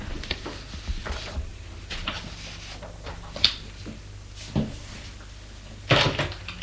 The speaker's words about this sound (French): La porte du séjour s'est ouverte.